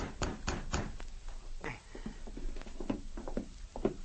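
Three quick, evenly spaced knocks rap on a wooden cabin door, loud, followed by quieter shuffling and faint movement with no one talking.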